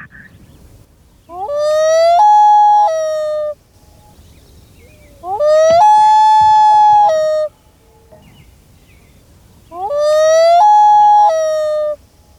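Three loud, drawn-out, piercing wailing bird calls on a lake, each sliding upward and then holding a rich, steady tone for about two seconds, separated by short quiet gaps with no talking.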